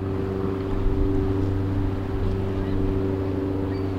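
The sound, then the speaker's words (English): A diesel-powered yellow aluminum boat about 18 feet long, topped with a radio antenna, drones steadily as it goes back and forth in Milwaukee's harbor near Discovery World, a low rumbling hum with strong tonal harmonics that holds constant throughout, with faint water and wind wash in the background. “In Milwaukee's harbor near Discovery World, a diesel-powered yellow boat about 18 feet long is going back and forth in the water.”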